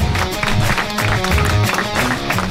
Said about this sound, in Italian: Grazie. Un applauso.